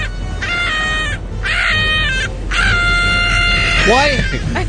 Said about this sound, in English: Why is the woman, who I'm guessing is …, in the background screaming, why is she auto-tuned?